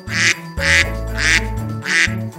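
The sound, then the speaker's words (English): Four loud, nasal quacks of a mother duck in a children's song, in a steady, evenly spaced rhythm over a sustained musical accompaniment. “Mother duck said, "Quack, quack, quack, quack."”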